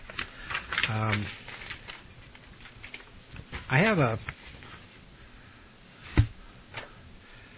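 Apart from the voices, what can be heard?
papers being shuffled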